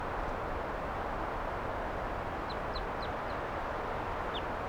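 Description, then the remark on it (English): Short, high chirps of wild birds that came right up to the microphone, a quick run of four and then one more, rise faintly over a steady rushing background noise. No one speaks. “And the birds, some of the wild ones came right here and wanted to perch on the microphone.”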